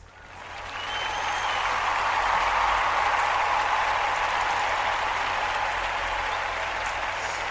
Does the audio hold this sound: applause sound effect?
yes